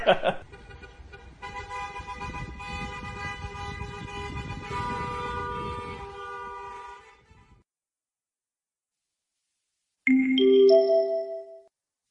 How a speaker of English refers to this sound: And she's like, oh, it's a wedding. So they all go crazy and they start honking like crazy because it's wedding time. I'm like, okay, they're letting everybody know that this is a wedding.